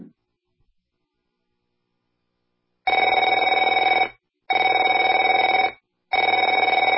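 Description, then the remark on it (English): A telephone rings three times in steady bursts, each ring a loud, rapid electronic trill lasting over a second with short silent gaps between. No one speaks. “Afraid to answer it?”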